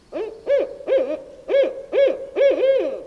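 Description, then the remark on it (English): A barred owl hoots in a rapid, rhythmic series of about six loud, throaty calls with rising and falling inflections, clear with no other sounds. “Or the barred owl.”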